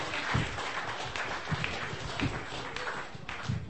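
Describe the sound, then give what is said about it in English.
An audience applauds steadily for the people who came up and sat or had to stand, a dense wash of many hands clapping at once with no voices standing out, holding an even, moderate loudness throughout. “Can we have a round of applause for everybody who came up and sat and having to stand?”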